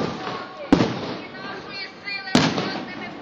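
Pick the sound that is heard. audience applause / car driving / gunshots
gunshots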